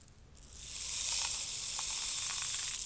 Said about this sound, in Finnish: niin vettä lipsuttelee kädellään, niin sillä saadaan luotua tommosia äänimaisemia.